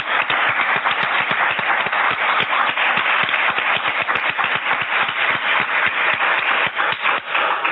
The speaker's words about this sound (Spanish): Un aplauso para mí.